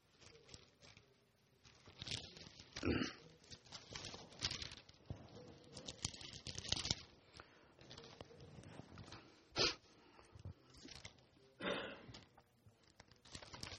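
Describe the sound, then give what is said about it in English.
Thin Bible pages rustle and flip as the reader turns to Galatians 3, a steady run of crinkling swipes with a few sharper, louder turns standing out, and no voices. “Get these pages turning a bit here.”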